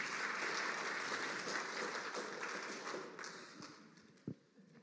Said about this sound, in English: Thanks very much, guys. Sit down. Another round of applause for these guys.